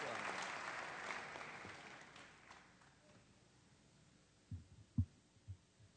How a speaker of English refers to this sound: Let's give him a good hand clap of welcome, sir.